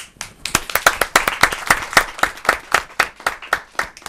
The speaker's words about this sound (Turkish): Bak Ali Erbaş, bu alkışlar doğru konuştuğun için.